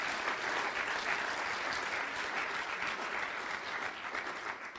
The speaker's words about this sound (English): I think it would be appropriate just to give these guys a round of applause to welcome into their roles.